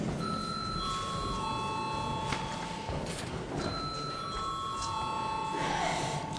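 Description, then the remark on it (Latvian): A parliamentary voting bell rings in sustained electronic chime tones, sounding twice in a row over a low murmur and rustle, called before a vote on declaring a bill urgent. “Lūdzu, zvanu.”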